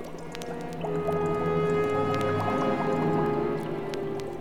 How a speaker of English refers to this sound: Welcome, Conan of Cimmeria. Come you closer and stand before my bubbling cauldron.